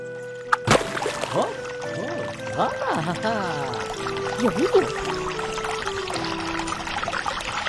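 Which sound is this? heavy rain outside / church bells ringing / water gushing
water gushing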